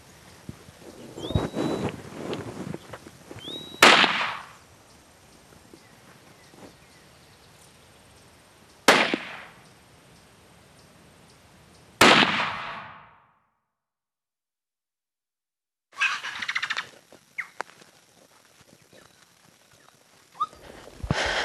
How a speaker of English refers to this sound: It ended up taking 4 shots to put him down.